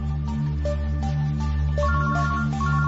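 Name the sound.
mobile phone ringtone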